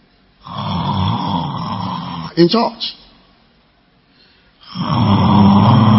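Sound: voice imitating loud snoring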